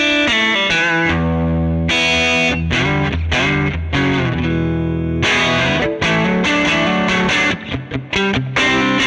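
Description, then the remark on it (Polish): Electric guitar played through an amp at full overdrive, heavily distorted and saturated, with loud chugging chords and sustained riffs that stay dense and constant throughout, no voice present. “I maksymalny przester, jaki da się uzyskać z tego wzmacniacza.”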